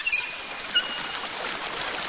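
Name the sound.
water running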